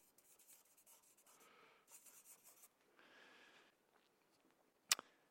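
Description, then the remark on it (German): A pen scratches across paper in short bursts of scribbling as someone writes words into gaps on the sheet, with brief pauses between strokes and a sharp tap near the end; no one speaks. “Ja, jetzt fülle ich fülle die Lücken vielleicht hier. Dann brauchen wir nicht gar so viel Papier.”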